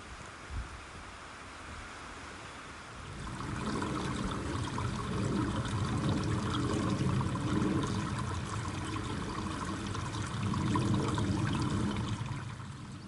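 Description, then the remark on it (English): Heavy rain pours down in a dense, steady hiss that swells after a quieter start and keeps up without a break, enveloping, with no voices; the rain starts again after briefly stopping. “You get a moment where I feel like I'm going to take my hood down because the rain stopped, and then once again it starts to cascade.”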